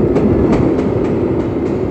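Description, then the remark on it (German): A train thunders over a bridge and into a tunnel, a loud, steady low rumble with rhythmic wheel clacks repeating about every quarter second, no voices. “Dann donnerte der Zug über die Brücke und fuhr in den Tunnel.”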